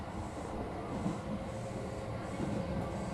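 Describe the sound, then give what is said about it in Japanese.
A steady, dense rumble fills the space, the low droning roar of riding inside a moving train, constant and fairly loud with no voices or distinct clacks standing out. “あー、チョコレートとかだったら電車内でも食べれるかな。”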